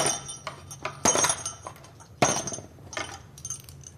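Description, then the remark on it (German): Small golden bells in a white box jingle in bright, metallic bursts, with two louder shakes standing out among lighter tinkling and clinking, all without any voices. “Goldene Schellen in einer weißen Schachtel und ein Gedicht dann noch.”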